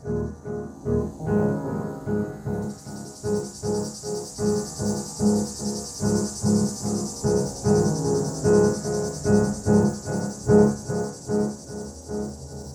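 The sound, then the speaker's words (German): A cicada chirps in a steady, pulsing rhythm, its bright high-pitched buzz continuous and fairly loud, with no voices present. “Und so altert der unsterbliche Geliebte eben immer weiter, schrumpft zusammen, wird immer faltiger, bis er dann eben zu einer kleinen Zikade wird, die nur noch vor sich hin zirpen kann.”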